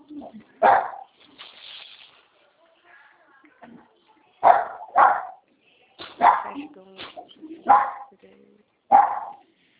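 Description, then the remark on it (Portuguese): A mixed-breed dog barks repeatedly in short, sharp bursts, roughly six or seven loud woofs spaced irregularly, with brief softer noises between them. “Quem é o cachorro?”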